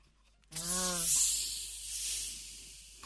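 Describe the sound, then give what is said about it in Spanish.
Tonic water pours and fizzes into a glass of gin with a little ice, making a gin and tonic: a steady, bright hiss of bubbles that stays loud for about two and a half seconds, opening with a brief tonal hum. “Ahí pone el agua tónica a ese gin.”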